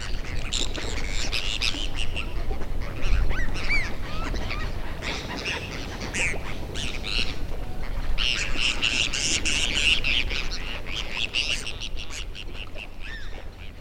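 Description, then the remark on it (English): A noisy flock of gulls migrating back north in spring calls continuously off Highway 12 in southern Arkansas, many overlapping squawks and cries layered into a dense, restless chorus that swells and fades without pause. “The gulls have started their big push back north.”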